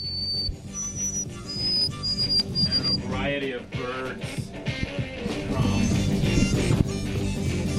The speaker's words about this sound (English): Variety of birds. Common bird song. There are birds in here.